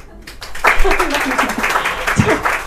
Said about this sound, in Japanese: 拍手いいですよ。